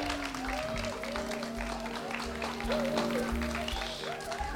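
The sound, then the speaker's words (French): Sustained applause from an audience for second-year theatre students of the live performance section, on the Paul Valéry University campus in Montpellier: a dense, steady wash of many hands clapping at once, fairly loud throughout, with some faint voices and a low hum mixed underneath. “On va les applaudir très fort parce qu'ils ont fait un énorme travail.”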